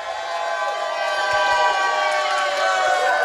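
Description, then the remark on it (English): A large sellout live crowd at the Hy-Vee on 135th Street in Overland Park cheers and roars continuously, celebrating the Kansas City Chiefs' seventh consecutive AFC West championship, a dense wash of shouting and whooping voices that stays loud and steady throughout. “Sellout crowd tonight.”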